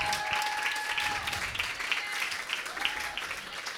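Steady, dense applause from an audience welcoming a poetry performer from Bahía Blanca to the stage, a continuous wash of many hands clapping at even loudness, with a few faint whistles or tonal cheers riding above it.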